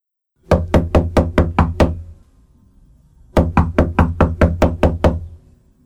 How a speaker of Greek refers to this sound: Χτυπώ την πόρτα.